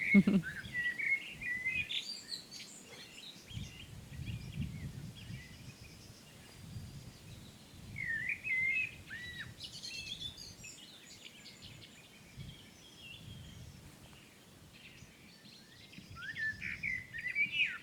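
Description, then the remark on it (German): A chorus of birdsong from thrushes and several blackbirds, about three to four blackbirds singing, with overlapping chirps and trills, punctuated now and then by sharper alarm calls from blackbirds, over a low, steady outdoor rumble with no one speaking. “Und man hört auch ab und zu mal so Warnrufe von Amseln, die dann so zwischen dem Konzert sind.”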